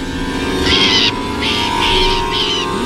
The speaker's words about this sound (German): In Deckung, Vorsicht, der Vogel greift uns an. Auf den Boden.